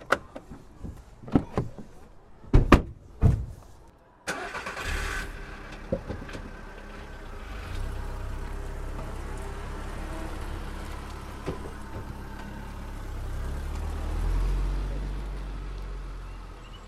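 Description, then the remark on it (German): Several sharp car door thumps sound in quick succession as siblings and their parents get into a car with backpacks, then an engine starts and settles into a steady, low driving rumble as they drive to a forest, swelling slightly toward the end. “Die Geschwister packten in ihre Rucksäcke etwas zu trinken und zu essen und stiegen mit ihren Eltern ins Auto.”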